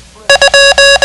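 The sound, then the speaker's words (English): Five electronic beeps in a steady, mid-pitched tone, the Morse code for the digit 2: two short blips followed by three long held tones, the last one cut off. The beeps are loud and there is no voice. “The code for 2 sounds like this.”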